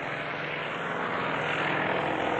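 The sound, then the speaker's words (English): A steady, loud roar of helicopters flying overhead and moving in on cell block D of a prison during a hostage standoff, a dense rushing engine drone with a low humming undertone that holds constant and swells slightly toward the end, with no voices. “That's the helicopters you hear.”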